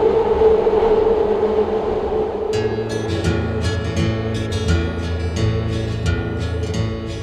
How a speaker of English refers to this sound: Train, train, train. I've got a thing about trains.